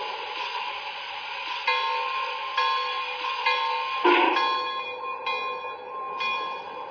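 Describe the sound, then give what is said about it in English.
Passenger train number 11, the Portland Rose, from Chicago, sits on track one at a station platform, a steady droning engine hum with a few sharp metallic clanks and a ringing bell-like tone, no voices. “from Chicago on track one, train number 11”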